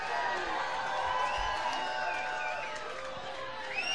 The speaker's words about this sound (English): Like for everybody to keep those round of applause together for the great one and only